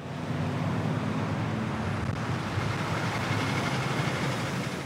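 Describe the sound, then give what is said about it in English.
Cars and trucks stop and go through the traffic light at Highway 71 and Dartmoor Road in Bella Vista, in a steady, unbroken wash of road noise, with a low engine drone beneath a broad hiss and no voices. “Cars and trucks stop and go through the light on Highway 71 and Dartmoor Road in Bella Vista.”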